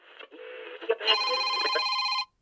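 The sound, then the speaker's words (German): A mobile phone rings with a bright electronic tone that shifts pitch partway through, then holds a steady buzzing ring for about a second before cutting off abruptly. It sounds fairly loud, with no voices. “Handy?”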